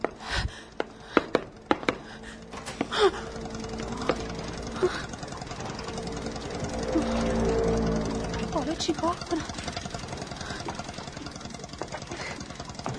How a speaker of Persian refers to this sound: خدای من، انگار یه قایقه.